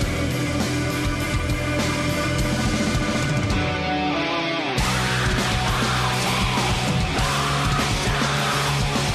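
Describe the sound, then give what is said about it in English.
Loud, intense music from an album plays nonstop at Waiting Room Records in Uptown Normal, a dense, distorted wall of sound that briefly thins in the highs midway before surging back at full force. “But yeah, it gives you almost the sense of like hopefulness and happiness through this barrage of intense sound.”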